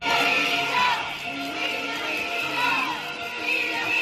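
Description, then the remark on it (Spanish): A large crowd of protesting teachers from all over Asturias chants together in unison in the centre of Oviedo, Spain, during a public-school strike, a dense, steady wall of many voices rising and falling in a repeated rhythmic slogan calling for the resignation of education councillor Lidia Espina, loud throughout the few seconds. “Son los profesores de toda Asturias pidiendo la dimisión de Lidia Espina como consejera de Educación.”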